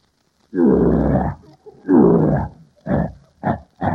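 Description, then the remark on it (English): A person imitates a lion's roar: two long, loud, rumbling growls followed by three shorter grunting bursts, forceful. “Now get a load of this lion roar.”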